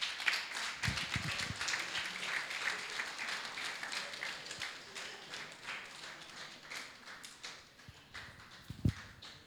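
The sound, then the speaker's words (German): Steady applause from a crowd for someone sitting on a fine 'battle horse' as an honour: dense, crackling claps that keep going for the whole stretch at a fairly even level, with a few sharper knocks near the end. “Also wer will nicht mal auf so einem tollen Schlachtross sitzen und so viel Applaus kriegen?”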